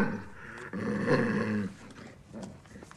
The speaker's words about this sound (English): His guide dog snarls. Shh, Gertie.